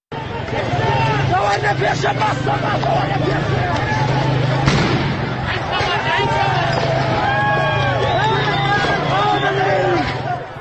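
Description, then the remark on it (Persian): Sharp gunshot cracks cut through a dense, shouting street crowd during widespread street clashes in the city of Mahabad, with one loud shot midway and a few fainter ones scattered around it, under continuous agitated voices and traffic rumble. “ویدیوهای منتشر شده به تناوب صدای تیراندازی در اون به آشکارا به گوش میرسه، از جمله این ویدیو که الان صداشو میشنویم.”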